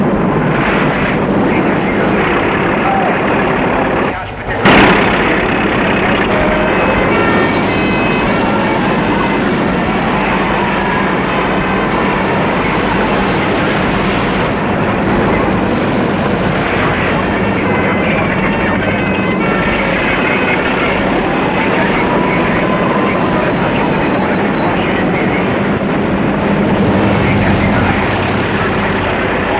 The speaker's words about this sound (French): Alors c'est temps, des bulldozers camions arrivent pour enlever les grabats des rues.